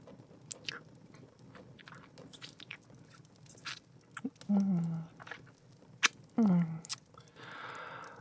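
Wet mouth sounds of someone taking small sips of blood, with soft clicks, a couple of low throaty swallows, and a brief slurp near the end.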